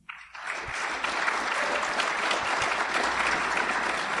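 A crowd bursts into applause as an audience votes by applauding for which item they think is the fiction. The clapping swells quickly and holds steady as a dense, sustained wash of hands from a sizable audience, with no talking over it.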